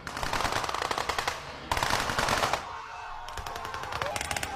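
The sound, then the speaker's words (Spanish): Sustained bursts of rapid gunfire, like machine guns rattling in long volleys, with brief lulls between clusters of shots; dense and loud, with no voices, from a tourist reenactment of the battle of Lushan Pass in China. “se trata de una recreación de la batalla del paso de Lushan”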